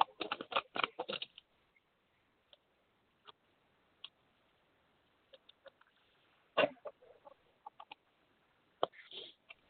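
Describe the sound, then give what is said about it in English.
A deck of romance cards is shuffled, opening with a quick burst of dense riffling clicks, then scattered soft taps and flicks as the cards are handled, with no one talking. “I'm gonna shuffle these.”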